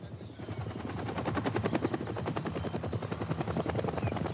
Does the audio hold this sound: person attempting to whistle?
no